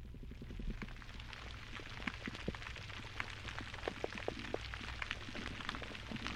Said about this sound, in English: So what you're hearing are snapping shrimp in the background, all that crackling.